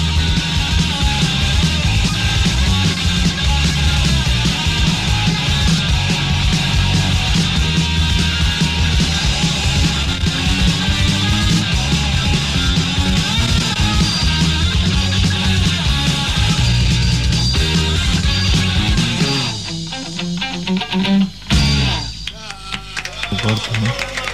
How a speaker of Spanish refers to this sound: un tema que hemos dedicado a todos los que estuvieron en el concierto